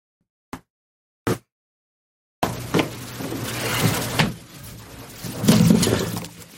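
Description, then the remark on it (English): A door being closed because of the dogs: two short sharp knocks, then a sustained stretch of rattling, scraping noise that swells and fades, with no talking. “I got to close the door because of the dogs.”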